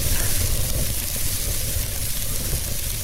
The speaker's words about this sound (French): C'est quelque chose qui frétille sur le feu, comme qui grille, là.